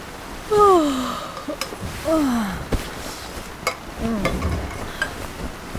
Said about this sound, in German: Regen, Regen, Regen. Wie lange soll das denn noch weitergehen? Ach Mann, das ist unmöglich.